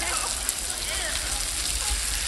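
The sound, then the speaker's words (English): Mealworms eating a bat carcass make a dense, steady crackling and pattering, even throughout, much like rain falling on a roof, with no voices. “It's not rain on a roof. Those are mealworms eating a bat carcass.”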